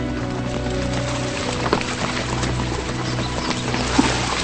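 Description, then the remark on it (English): Horses with riders splash steadily through a calm brook, water churning and trickling, with a couple of sharper splashes standing out over a constant low rumble. “Now they ride through a calm brook.”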